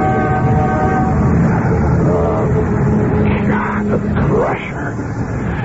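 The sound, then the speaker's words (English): A loud, steady rumble and clatter of a moving train on a long, rickety train ride home, with held horn-like tones early on and wavering, whistling squeals rising over the racket toward the end. “All that noise and the long, rickety train ride before I can make it home.”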